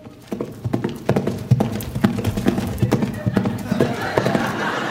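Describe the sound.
Horse hooves clip-clop in a steady, brisk rhythm, fairly loud, with voices murmuring underneath and a rising hiss toward the end.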